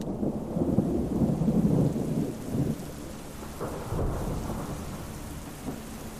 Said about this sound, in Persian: نمیدونم چقدر خواب بودم که با صدای رعد و برق و طوفان از خواب بیدار شدم.